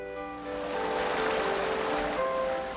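nature, waterfall rushing water

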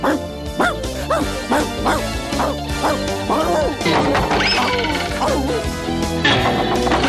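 animal, puppy barking and yipping

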